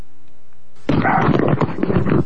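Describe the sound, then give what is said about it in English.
After a brief quiet moment, dogs suddenly erupt into loud, rough barking and snarling that continues in a dense, overlapping burst until the end. “Yeah, get in charge of my dogs here, who seem to be...”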